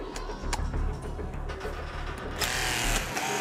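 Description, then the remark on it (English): A battery-powered Power Hawk hydraulic rescue spreader, a Jaws of Life type tool, is switched on and opened and closed, running with a steady low motor drone and rhythmic mechanical clattering, swelling into a louder, brighter whine partway through. “These are their Power Hawks, which are actually a battery operated Jaws of Life type unit.”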